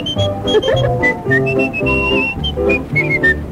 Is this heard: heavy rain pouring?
no